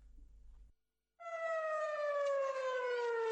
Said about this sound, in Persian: آژیر خطر در سرزمین‌های اشغالی و فرار سراسیمه صهیونیست‌ها به پناهگاه‌ها پس از شلیک موشک‌های برخاسته از جنوبی‌ترین نقطه دریای سرخ از یمن.